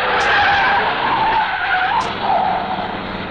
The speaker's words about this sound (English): immeasurably enhancing the sleekness of that cut-down hot rod squirreling past us en route to a ball, 1956 teenage style.